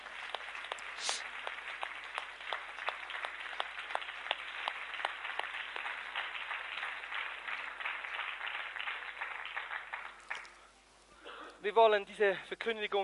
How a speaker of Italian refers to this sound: Allora alziamoci in piedi e diamo un grande applauso al Signore.